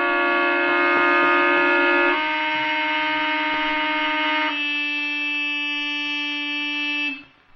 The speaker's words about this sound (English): With some trick. Using the paper clips to hold down the car horns